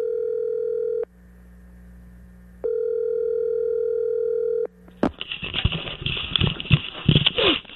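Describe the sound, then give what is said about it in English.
A telephone ringback tone sounds twice as a phone call is placed, each steady electronic buzz lasting about two seconds with a pause between, then a sharp click as the line opens onto crackly, hissing noise. “So we have a phone number for Tiger. Let's call him”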